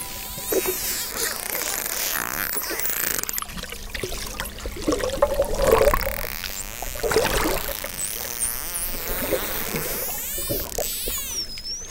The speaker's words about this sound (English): I mean, a lot of that is the dolphins just doing whatever they're doing.